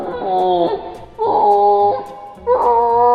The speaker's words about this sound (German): In einem Schutzreservat in Bolivien studierten die Forscher die Rufe der Affen. Werden die Laute stark verlangsamt abgespielt, hört sich der Jodelruf der Haubenkapuzineraffen so an.